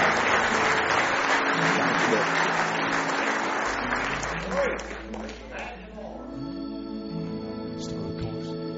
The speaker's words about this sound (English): Somebody say praise the Lord. Give him one more hand clap of praise if you love him this morning.